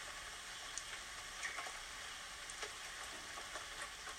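Light rain falling steadily in the woods, a soft even hiss dotted with scattered, irregular ticks of individual drops, fairly quiet throughout with no voices.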